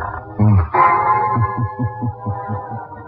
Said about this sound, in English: Where are we going? Through the creaking door.